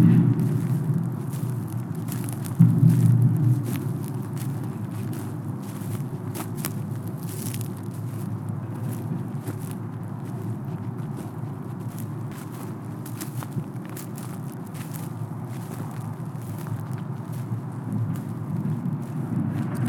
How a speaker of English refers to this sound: If you listen, you can hear it. Metal scraping against metal, falling, shifting, piles of waste collapsing, on the way to becoming something new.